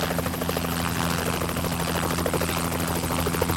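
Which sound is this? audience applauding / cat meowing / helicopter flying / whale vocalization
helicopter flying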